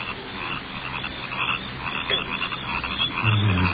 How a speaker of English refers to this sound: Crickets are getting on my nerves.